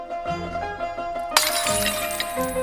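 In a film scene, the young character Sing smashes open a piggy bank with a sudden bright crash about halfway through, followed by scattering, clinking shards over a steady musical background. No voices are heard.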